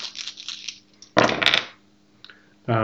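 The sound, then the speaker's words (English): Four dice are rolled and clatter across a table, a scattered rattle followed by a louder tumbling burst and a small final click, just before a voice begins at the end. “Make our very first Vampire the Masquerade dice roll.”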